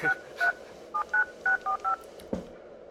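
Seven touch-tone beeps as a phone number is keyed in, the first few spaced apart and the rest coming quicker, followed by a single click. No one speaks.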